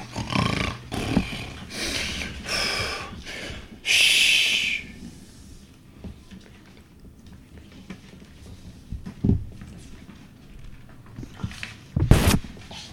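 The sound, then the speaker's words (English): Loud, exaggerated snoring of the wolf from Little Red Riding Hood, asleep, with rough, growling inhales and snorts, a run of strong bursts at first, then quieter rumbling breaths broken by a couple of sharp snorts near the end. “He was so pleased that he fell asleep and started snoring loudly.”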